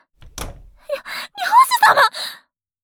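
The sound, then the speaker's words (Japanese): A single dull thud, like a door banging shut, followed by a run of breathy gasps and strained vocal sounds, no clear words. “漁師様、なんで扉の方へ。”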